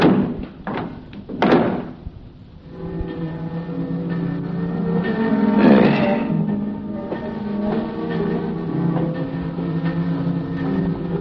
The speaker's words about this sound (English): And unhurriedly, he pushed the sliding slab into the compartment and closed the door marked 12. And turned the knob that held it shut.